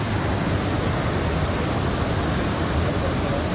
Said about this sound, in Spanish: Lluvias, vientos, tormentas corrían con fuerza varios barrancos, entre ellos el barranco de las Nieves en Santa Cruz de la Palma. Es una imagen poco inusual. Bajaba con mucho caudal.